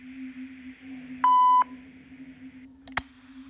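A voicemail beep signaling the caller to leave a message: a single steady electronic beep, high and pure-toned, lasting under half a second over a low constant hum, followed moments later by a short click.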